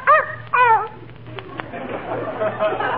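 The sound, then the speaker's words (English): A small dog gives two quick, high-pitched yapping barks, like an eager greeting, in a busy post office at Christmas, followed by a quieter stretch of faint background murmur. “She muffed that one, Uppy. She said hello again.”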